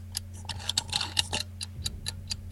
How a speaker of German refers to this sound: Was ist das? Eine Zeitbombe. Eine Eieruhr. Genau. Das ist eine Eieruhr.